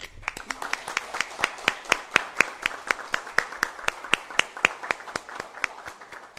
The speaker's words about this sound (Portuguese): Senhora Presidente, vamos quebrar o protocolo um pouco? Vamos, vamos. Uma salva de palmas para o povo juarense.